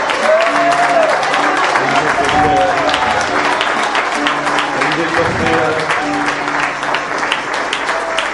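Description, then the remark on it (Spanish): An audience applauds Christ steadily and loudly during worship for several seconds, a dense wash of clapping, while voices and singing carry on over it. “que resuene esa aclamación para Cristo, ese aplauso para el Señor.”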